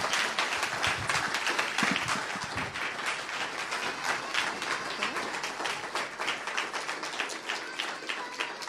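An audience applauds warmly, a dense, steady wash of many hands clapping that holds at an even, fairly loud level for several seconds without any voices over it.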